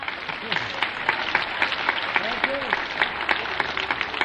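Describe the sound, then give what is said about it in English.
A crowd claps steadily throughout, a dense and fairly loud wash of hand claps giving a performer a big hand, with a few voices calling out underneath. “Let's give him a great big hand.”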